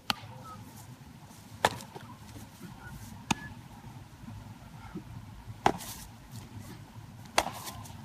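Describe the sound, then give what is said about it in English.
Five sharp, leathery smacks of a baseball landing in a glove, spaced irregularly a second or two apart over a low, steady background hum, with no talking. “that was the sound of summer, was like the sound of a ball getting into a glove.”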